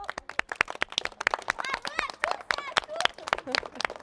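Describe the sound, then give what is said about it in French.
A group of schoolchildren claps together in a quick, uneven burst of applause lasting several seconds, applauding themselves while saying goodbye before the summer. Cheerful voices and a few excited calls rise over the clapping midway through. “Et bravo, on s'applaudit.”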